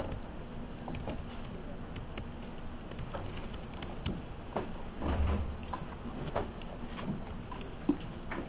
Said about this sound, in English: Can we close the door at the back?